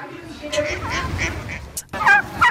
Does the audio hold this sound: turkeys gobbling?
yes